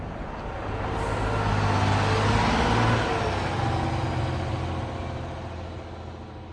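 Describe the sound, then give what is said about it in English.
A basketball team's bus engine drones steadily heading north on Interstate 90 on a 4-hour ride to a game against the La Crosse Bobcats, a low rumble with broad road noise that swells in over the first seconds and eases off toward the end, with no talking. “The rest of the team gets back on the bus and heads north, up Interstate 90, a 4-hour ride to their next game against the La Crosse Bobcats.”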